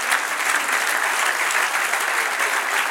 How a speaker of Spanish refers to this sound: Dale un aplauso, Señor.